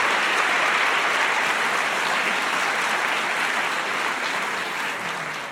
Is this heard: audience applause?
yes